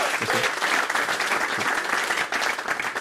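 A crowd at an evening show applauds the backing band steadily, a dense, continuous wash of many hands clapping at an even loudness throughout, with no clear individual voices standing out.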